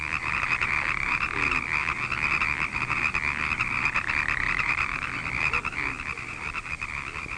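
A bullfrog croaks in a pond amid a dense, steady chorus of frog calls that holds an even loudness throughout, with no voices present.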